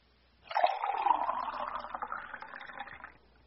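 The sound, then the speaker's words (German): Water pours steadily into a glass for about three seconds, a continuous splashing stream that starts abruptly and then stops, with no voices. “Puh, ein Glas Wasser bitte.”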